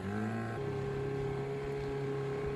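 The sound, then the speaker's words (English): A boat's outboard motor is opened up and drones steadily and loudly while following racing sports boats such as Team Coors Light toward the windward mark, its engine pitch shifting up once early on before holding a constant hum with water and wind noise beneath. “I'm going to open up the outboard. Probably drown me out.”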